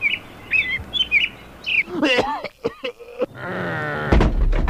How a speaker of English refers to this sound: Chicken. Pollo.